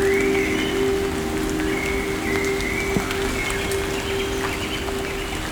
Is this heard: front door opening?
no